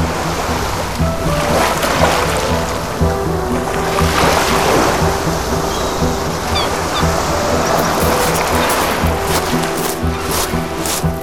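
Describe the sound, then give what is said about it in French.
Even in calm weather, ocean surf roars loudly and without pause, a dense wash of crashing water like a storm, with steady low rumbling underneath and no voices. “Ici, même par temps calme, l'océan fait un bruit de tempête.”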